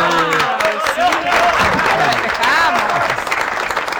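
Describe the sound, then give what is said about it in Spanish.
A crowd applauds with dense, steady clapping that fills the whole stretch, while voices chatter and call out over it. “Bueno, un aplauso, gracias.”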